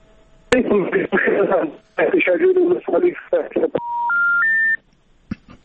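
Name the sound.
telephone line beeps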